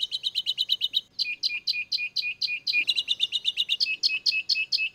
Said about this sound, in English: Then when I showed up after a few years again, I was truly even more perplexed. She thought, God, why can't I tell these finches apart? It was very confusing.